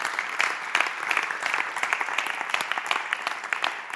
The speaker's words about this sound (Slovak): Zatleskáme Ježišovi, Pánovi na zemi.